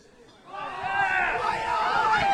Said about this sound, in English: The crowd is clamoring over each other.